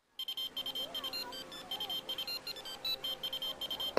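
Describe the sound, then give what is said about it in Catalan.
The Gripau Blau emergency telephone line rings with a rapid electronic warble before its answering machine picks up, short bright tones pulsing in quick repeated bursts for several seconds, fairly loud, with no one speaking. “Hola, aquí el Gripau Blau, telèfon d'urgència. En aquests moments estem atenent un sudoku molt important, o sigui que no el podem atendre.”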